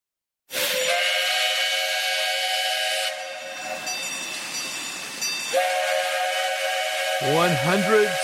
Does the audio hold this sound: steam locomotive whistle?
yes